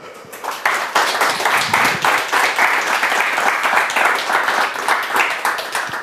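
Sustained applause from an audience, many hands clapping in a dense, steady wash of crisp claps that holds at an even loudness for several seconds with no voices.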